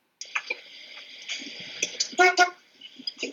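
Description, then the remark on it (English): Two quick, blaring car horn honks ring out in a short double beep, set against a steady hiss of traffic-like background noise. “Oh, yeah, honk that.”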